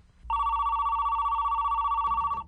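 A telephone rings in one steady, continuous electronic trill lasting about two seconds, then cuts off abruptly, as a call is placed to ask for help. It is clear, with a faint low hum underneath and no talking.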